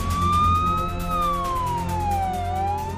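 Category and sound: vehicle, ambulance sirens wailing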